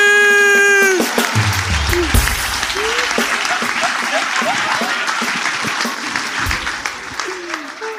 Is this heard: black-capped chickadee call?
no